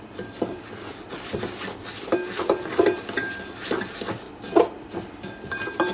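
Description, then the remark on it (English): Mixing crushed biscuits with 125 grams of melted butter in a good-sized bowl: a utensil scrapes and taps against the bowl in an uneven rhythm, with a few sharper clinks standing out over a steady gritty stirring noise. No one speaks. “Now the crushed biscuits add 125 grams of melted butter. Just mix it through.”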